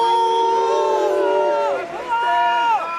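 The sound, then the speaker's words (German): Loud mask opponents shouting at an outdoor FDP campaign rally in pouring rain, drawn-out wavering cries that rise and dip in pitch, sustained without pause for a few seconds. “Ich freue mich, dass ich hier bei Ihnen sein darf, ruft Christian Lindner dem Publikum zu, während es in Strömen regnet und von der anderen Seite Maskengegner quäken.”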